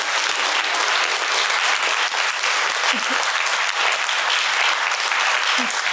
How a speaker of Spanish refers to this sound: Le damos un aplauso